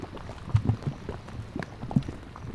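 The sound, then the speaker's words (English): Thick mud bubbles and pops at the Fountain Paint Pots in Yellowstone National Park, in low, irregular plops and gurgles, a few louder bursts rising from a steady murmuring bed of sound, with no voices. “So I think I would start off, I guess I would lead with fountain paint pots.”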